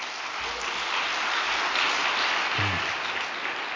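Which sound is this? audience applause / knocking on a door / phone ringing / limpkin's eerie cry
audience applause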